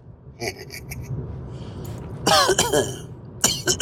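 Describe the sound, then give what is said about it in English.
A person coughs and clears their throat several times in quick, harsh bursts, with a couple of fainter rasps at the start and a loud cough near the end. “Made me cough now, baby.”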